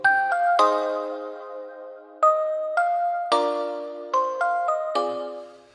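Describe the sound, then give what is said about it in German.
A melodic doorbell chime plays a short tune of about nine bright tones, each struck and ringing out briefly before the next, clear with no voices. “Es hat geklingelt.”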